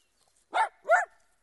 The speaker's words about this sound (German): Hör auf zu bellen! Das ist aber ein schöner Hund, den Sie da haben. Der sieht so lieb aus. Vor dem muss man sicher keine Angst haben. Nein, das brauchen Sie nicht.